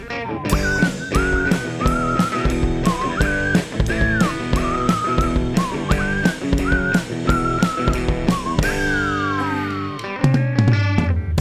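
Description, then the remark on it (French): A bright whistled tune with sliding, bending notes rides over a busy rhythmic musical backing, steady and fairly loud, ending in a few long downward glides. “Mais quand même nos animaux prennent leur temps quand ils croisent une bourgeoise punk en sifflant.”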